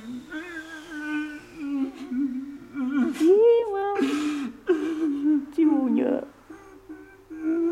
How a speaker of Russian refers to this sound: А потом роняет лицо в твердый, как подошва, ладони и плачет.